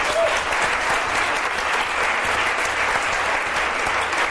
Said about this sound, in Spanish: Un aplauso para ella.